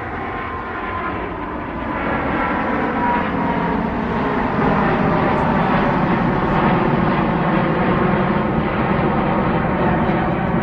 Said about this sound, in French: Tout ceci au bout des pistes de l'aéroport. On entend justement un avion qui s'envole, qui passe au-dessus du centre de rétention administrative.